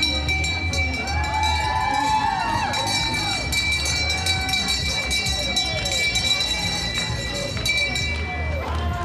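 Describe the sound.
A boat skipper's bell rings with steady, high metallic tones during a boat parade, above a constant wash of crowd noise, with voices and shouts mixed in throughout.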